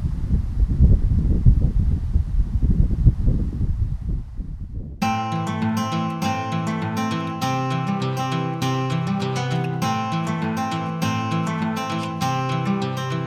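Outdoor wind blows on a street on a sunny day in a steady, low rumbling roar with rough gusts for about five seconds, then cuts off abruptly as loud melodic music begins.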